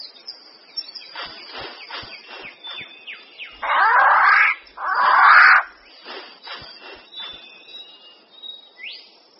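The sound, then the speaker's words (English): A rifle bird of paradise gives two loud, harsh rasping calls in quick succession, standing out over a busy background of softer chirps and insect buzzing. “a rifle bird of paradise.”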